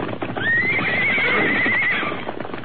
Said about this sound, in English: Yippee, look at them travel. You'll never catch them horses again